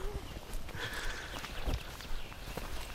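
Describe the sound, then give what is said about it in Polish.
A bison tears at and chews tough, fibrous plant material, gripping it with its teeth from below and ripping off strips up to a metre long, with irregular crunching, ripping and rustling sounds and a few heavier thuds. “Ono jak złapie tutaj tymi zębami od dołu, potrafi taki płat metrowy, czasami zależy jak się to układa, po prostu oderwać i zjeść”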